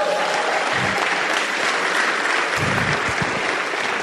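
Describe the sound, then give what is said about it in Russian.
Sustained applause for God from a large audience fills the whole stretch, a dense steady wash of many hands clapping at once, loud and even with no voices standing out. “Я бы на этом месте Богу больших аплодисментов.”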